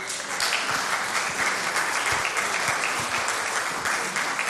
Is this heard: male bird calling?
no